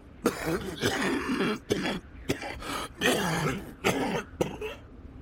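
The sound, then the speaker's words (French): A man coughs repeatedly in harsh, rasping bursts at an abandoned campsite left by a Japanese expedition, a run of about eight loud coughs with short gaps between them and a throat-clearing quality, no talking. “Et là, … se met à tousser.”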